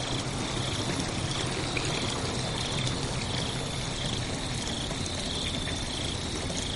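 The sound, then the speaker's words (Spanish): Water taken from a bucket is poured and splashes steadily over a man's forward-tilted head, rinsing his hair, for several seconds, a continuous trickling rush, with faint insect chirping in the background and no voices. “Coge agua del cubo. Échate hacia adelante. Le aclara el pelo.”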